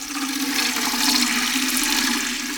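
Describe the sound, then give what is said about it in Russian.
Water pours steadily from a barrel into a tin watering can, a continuous, fairly loud splashing rush that holds constant for the whole stretch with no voices. “Вода лилась из бочки в жестяную лейку с таким славным шумом, будто это был маленький водопад.”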